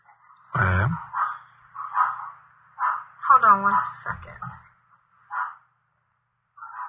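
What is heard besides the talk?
dogs barking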